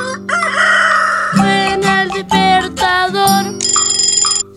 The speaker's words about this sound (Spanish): Canta el gallo cantor.